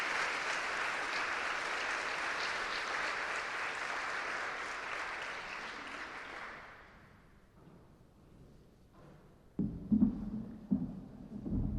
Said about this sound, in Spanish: Se saludan de lejos también con el rector, se impone su birrete y escuchamos los aplausos.